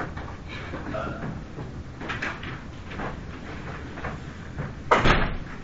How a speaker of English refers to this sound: You can close the door.